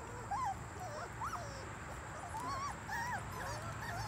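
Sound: puppies whimpering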